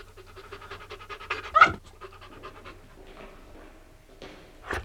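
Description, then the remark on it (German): Timmy the dog barks at night in a couple of sharp bursts, one loud bark in the middle and another at the end, with rapid panting and huffing in between. No one speaks. “Warum bellst du so?”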